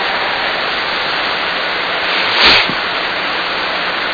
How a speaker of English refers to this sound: Así como está cayendo la lluvia en este momento. Just as the rain and the water is falling from heaven at this moment.